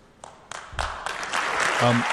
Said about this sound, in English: I can't believe he's getting applause for that, but okay.